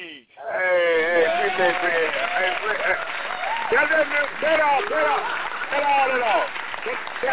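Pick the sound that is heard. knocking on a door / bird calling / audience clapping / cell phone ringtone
audience clapping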